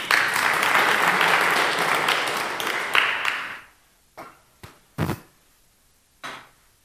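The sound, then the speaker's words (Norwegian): A crowd applauds loudly for about three and a half seconds, then the clapping fades out, leaving a few scattered, isolated claps from individuals. “Gi han en applaus.”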